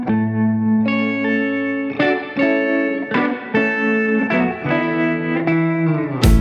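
An instrumental pop song intro: sustained, effects-heavy chords with a chorused, slightly distorted tone shift every second or so, ending in a sharp burst, with no singing yet.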